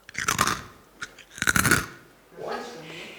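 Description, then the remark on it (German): Crisp crunching as someone bites into something crunchy: a burst of cracking, a single snap, then a second longer crunch, followed by a soft breathy exhale. “Bitte Stille für dieses Reinbeißen.”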